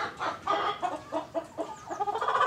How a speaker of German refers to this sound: Und die haben hier nicht nur einfach einen Stall, sondern quasi ein Hühnermobil, einen fahrbaren Stall, sodass man den immer hier auf dieser Wiesenfläche so ein bisschen verrücken kann.